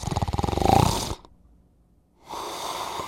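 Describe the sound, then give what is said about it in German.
A loud, rattling human snore during sleep with a rapid vibrating buzz, followed by a brief silent pause and then a rough, breathy airflow sound, with no talking. “Gurgeln, sägen, röcheln, krachen, grunzen – so beschreiben leidtragende Mitschläfer, was sie nachts zu Ohren bekommen.”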